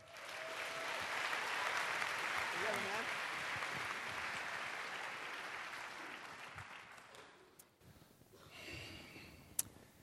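An audience claps steadily in a dense, sustained burst of applause for about seven seconds as the next speaker, a Seattle gallery owner, is introduced at a talk; then it thins and fades away into quieter rustling with a brief sharp click near the end.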